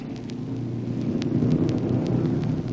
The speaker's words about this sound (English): From Machinery Hill, you'll hear the sounds of big racing cars circling the oval track, preparing for the big afternoon auto races in the grandstand,